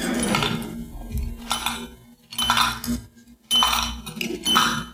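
Coins dropping into a pay phone to pay for a long-distance call to NBC in Hollywood: a series of about five bright metallic clinks and ringing chimes in uneven bursts, fairly loud, with no one talking.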